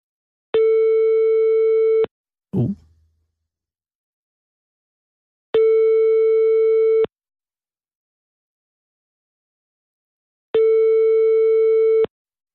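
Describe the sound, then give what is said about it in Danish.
A telephone ringback tone of an outgoing call to a place in Marstal, Denmark, where smoking is still allowed: three steady, moderately loud electronic tones, each about a second and a half, separated by long silent gaps, with a short clunk after the first. “Og derfor synes jeg, det er på tide, at vi ringer op til et sted, hvor man stadig må ryge, for at høre, om der stadig er levende til stede.”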